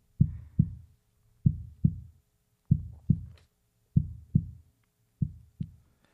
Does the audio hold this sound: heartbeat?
yes